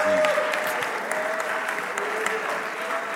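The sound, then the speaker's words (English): A crowd at a church revival service claps their hands to the Lord, a dense wash of hand claps with some scattered voices and a faint sustained tone running underneath. “Somebody clap your hands to the Lord and shout to him with a voice of triumph.”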